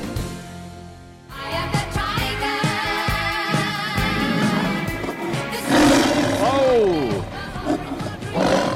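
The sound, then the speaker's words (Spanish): A tiger roars loudly, a deep rumbling growl that starts after a brief quiet moment and carries on for several seconds, swelling into a louder, rising snarl near the end. “¡Era el tigre!”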